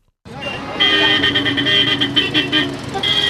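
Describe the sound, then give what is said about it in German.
Car horns blare continuously over dense, rumbling street traffic, several overlapping honks sustained, with a busy roadway hum underneath; cars jammed bumper to bumper in scorching heat on the Nile Corniche street in downtown Cairo, Egypt. “Hupend stauen sich die Autos an der Niluferstraße in Kairos Innenstadt.”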